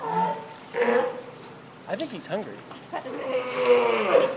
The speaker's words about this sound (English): Here's the sea lion. You think you're going to talk some more?